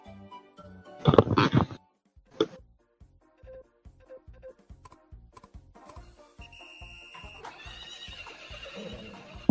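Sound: horse neighing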